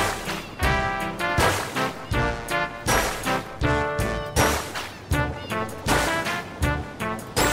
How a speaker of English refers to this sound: Even the water noises are tempo synced. That is cool.